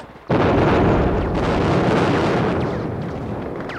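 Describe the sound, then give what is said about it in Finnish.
A bridge explodes with a sudden, loud blast, followed by a dense, rumbling roar that holds for several seconds and only slowly begins to fade. No voices are heard. “Silta räjähtää!”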